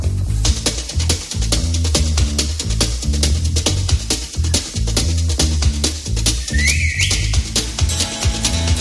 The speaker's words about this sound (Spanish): Bueno, el siguiente grupo comenzó siendo un trío, en el camino se descuelga un músico y se transforman en dúo y esta canción es un auténtico himno. Solo tienes que silbar al principio.